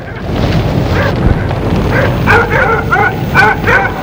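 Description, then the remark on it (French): A dog barks and whimpers, with scattered yelps early on, then a rapid run of sharp, high barks over a steady low rumble of wind-like noise, as a man kicks the dog. “L'homme donne un coup de pied au chien.”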